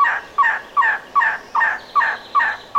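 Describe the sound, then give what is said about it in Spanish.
An elegant trogon, a rare emerald-green and poppy-red bird, calls in Arizona, USA, in a steady series of about eight hoarse, croaking notes, evenly spaced and fairly loud, with no other voices present. “Los raros y espectaculares trogones elegantes también se encuentran aquí.”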